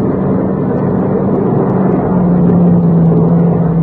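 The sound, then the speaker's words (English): A car engine drones steadily and loudly throughout, its low hum dipping slightly in pitch about halfway as the vehicle passes by. No one speaks. “Well, he's going past, isn't he?”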